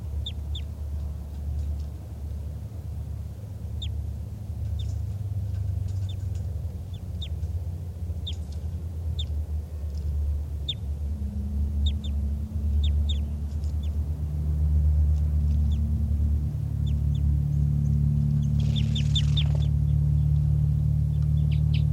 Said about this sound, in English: And there are calls coming from over there. I'm not sure which bird is giving flight calls. I think it's the wild bird.